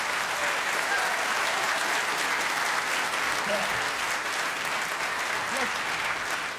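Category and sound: crowd, audience applause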